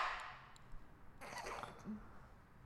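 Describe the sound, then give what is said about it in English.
A single loud sneeze bursts out sharply, a brief forceful blast with a short breathy tail, then a little low rustling. No one speaks. “I gotta sneeze. I sneeze like a dad.”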